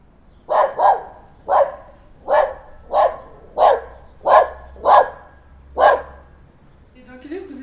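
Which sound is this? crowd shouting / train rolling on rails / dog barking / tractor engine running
dog barking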